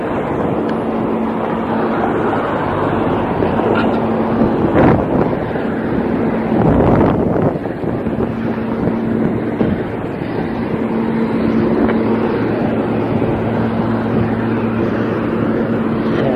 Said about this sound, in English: Heavy traffic at the corner of Medford and Bell Rock Streets.